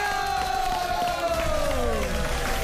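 An audience applauds and cheers in a steady, loud wash of clapping and shouts, with a high tone gliding slowly downward above the crowd noise.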